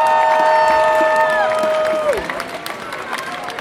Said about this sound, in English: So our next speaker is someone from France. His name is, he will announce himself, and a big applause for him. Woo!